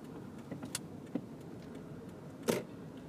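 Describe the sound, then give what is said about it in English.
A steady low rumble of a car driving through an intersection after the light turned red, with a few sharp clicks and rattles scattered over it, fairly quiet, with no one speaking. “That car waited until the light was red to go.”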